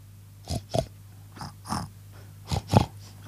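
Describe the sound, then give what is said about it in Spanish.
On Ripollet Radio, a child's voice imitates a pig, making three pairs of short, snorting oinks in a steady rhythm, each burst breathy and nasal, over a faint constant low hum. “A ver, ¿cómo hace el cerdo?”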